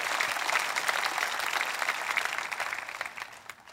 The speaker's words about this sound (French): Je pense que ça mérite plus qu'un amen, ça mérite une main d'acclamation.